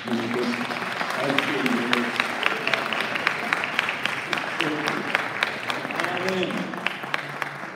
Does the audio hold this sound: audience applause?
yes